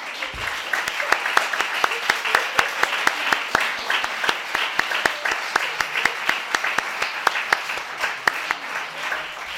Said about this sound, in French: Bravo à vous, chers organisateurs et organisatrices, et merci. Je pense qu'on peut collectivement les applaudir.